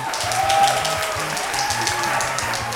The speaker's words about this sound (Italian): Applauso!